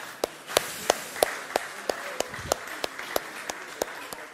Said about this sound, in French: Mais j'aimerais, vous pouvez vous applaudir parce que vous avez bien géré là, merci.